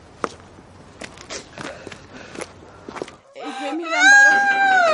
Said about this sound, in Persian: گریه نکن بابا، زشته.